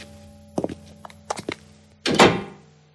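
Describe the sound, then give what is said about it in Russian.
A few soft, uneven footsteps as a man walks out, then a door shuts behind him with a solid, fairly loud thud that rings out briefly. There is no talking. “«Неладно, эх, неладно», — заметила матушка, как только он скрылся за дверью”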